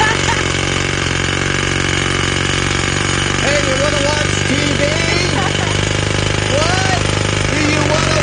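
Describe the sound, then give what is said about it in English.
A loud, continuous mechanical hammering drone fills the entire recording, a jackhammer breaking pavement, with a person talking faintly over the racket. “I mean, I really think they can't possibly need to jackhammer this much.”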